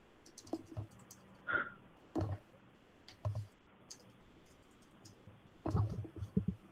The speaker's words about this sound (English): Why am I typing to him on Skype?